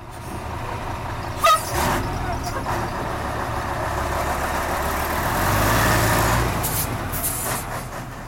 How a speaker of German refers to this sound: Sie kommen in bunt bemalten Lastwagen. Betten, Schränke, gar Kühe sind auf den Ladeflächen zusammengepfercht und mittendrin die Rückkehrer.